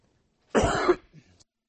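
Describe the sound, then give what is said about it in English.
A person gives a single loud cough that bursts out for about half a second, followed by a brief softer rustle or breath as it trails off into quiet, after which the microphone is turned off. “I coughed and then turned off the mic.”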